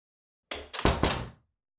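A door swings shut with a solid clunk followed by a couple of quick rattling thuds as it settles into the frame, all over in about a second with no voices.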